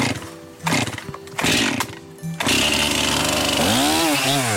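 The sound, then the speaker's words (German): A chainsaw revs in a few short bursts, then bites into a spruce trunk with a loud, steady roar, bright chips spraying out of the trunk, its engine pitch wavering near the end as the cut continues. “legt die Säge an. Aus dem Fichtenstamm sprudeln helle Späne.”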